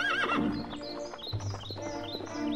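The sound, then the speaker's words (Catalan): A horse whinnies loudly, a high wavering neigh, while hooves clip-clop steadily underneath during a horseback ride through meadows; no one speaks. “Virgínia i el jove duc van sortir a passejar a cavall pels prats”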